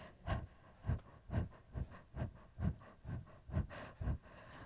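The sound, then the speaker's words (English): A person pants in quick, shallow breaths like a panting puppy, about nine breathy puffs in a steady, even rhythm, fairly soft, with no talking. “Wiggle and shake your whole body, taking short, shallow breaths like a panting puppy, like this.”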